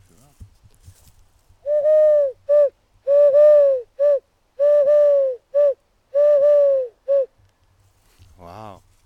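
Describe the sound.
A person imitates a turtle dove's cooing: a fairly loud run of soft hooting coos, alternating longer and shorter notes in a steady rhythm, with nothing else going on.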